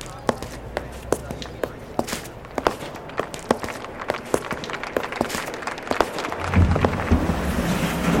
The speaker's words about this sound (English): And when Maria Teresa and her mom got to the grand courthouse, their heels clicked like applause as they climbed up the steps to go inside.